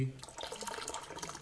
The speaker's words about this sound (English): Pouring of the tea.